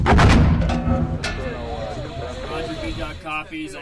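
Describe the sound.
Several heavy explosions of incoming mortar fire, from an area where the Taliban are known to operate, boom out, the loudest blast right at the start and further thuds following at uneven intervals, while voices talk underneath and between the impacts.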